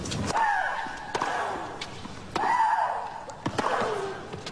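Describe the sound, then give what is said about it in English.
Tennis player Michelle Larcher de Brito of Portugal lets out loud, high-pitched, drawn-out shrieks, about three in a row, each starting with the sharp crack of a racket striking the ball. “Well, there is a really, really loud screamer.”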